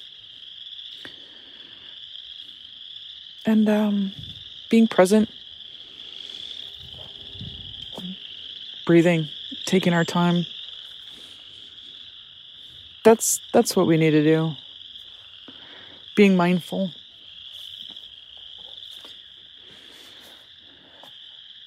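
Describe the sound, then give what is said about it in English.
A dense, continuous chorus of spring peeper frogs peeping in the woods, a steady high-pitched ringing that never lets up, with a woman speaking calmly in short phrases over it while walking in the woods. “I'm out here walking in the woods, blowing off some steam and listening to the peeps and enjoying their hopeful chatter.”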